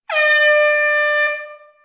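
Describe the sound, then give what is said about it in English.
A single loud, sustained DJ air horn sound effect, played as a thank-you when someone follows the show, with a bright, brassy harmonic tone, holding steady for over a second before fading out; no voices. “And in my show format, I usually do some sound effects, you know, some applause, maybe a DJ horn or something when somebody follows me, just as a way to say thanks.”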